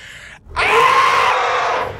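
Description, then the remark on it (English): A great heron lets out one loud, harsh, piercing scream, sustained for about a second and a half after a brief hush, with no talking. “They look at you, Hayden, and then scream.”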